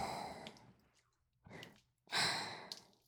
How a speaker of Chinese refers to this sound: 你的喘息声越来越大了，但是还不行哦，不行。